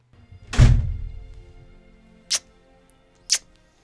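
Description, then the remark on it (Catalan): A door opens with a heavy thunk that rumbles briefly as a young woman comes in, then two short, sharp clicks follow about a second apart. No one speaks. “S'obre la porta i entra la senyoreta Picafort.”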